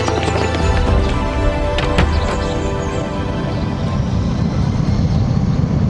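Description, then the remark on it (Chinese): A loud, steady airplane engine roar that holds at constant strength throughout, with a rumbling low end and some whining tones early on, as the plane taxis on the runway at the start of a flight to the United States. “不久，飞机滑行在跑道上，随着引擎的轰鸣声，他们的冒险正式启程。”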